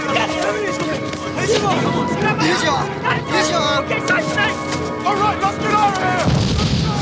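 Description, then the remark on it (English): Battle noise in a jungle with bursts of gunfire and booming explosions, a heavy blast near the end as an explosion rips through the jungle, layered under shouting voices and a dense, continuous wash of sound. “Mazar dives to the ground as an explosion rips through the jungle behind him.”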